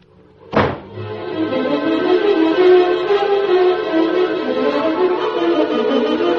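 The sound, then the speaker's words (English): A door slams shut with one sharp, heavy bang, then a sustained, steady swell of tonal music carries on for several seconds without any talking. “Then I walk right out and slam the door. Really properly too, sir, if I may say so.”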